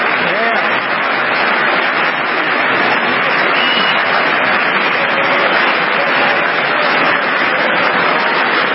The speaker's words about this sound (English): Nice applause. Nice applause.